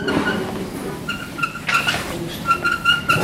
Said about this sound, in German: Die Kamera ist auf so einem Gestell mit Reifen befestigt und die quietschen heute ganz schön laut.